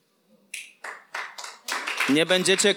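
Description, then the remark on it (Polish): An audience claps at the Kanaan Pentecostal Church in Olesno at the start of a sermon: four separate sharp bursts come first, then the clapping swells into louder, continuous applause as a voice begins speaking over it. “Nie będziecie klaskać po wszystkim.”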